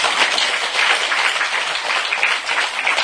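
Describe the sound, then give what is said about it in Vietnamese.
A crowd applauds steadily for about three seconds, the dense patter of many hands clapping filling the space at an even, fairly loud level with no voices. “Ra đi giao nhà cho chồng, giao xe cho chồng, đi với mấy chục bạc trong túi cho tràng pháo tay nữa.”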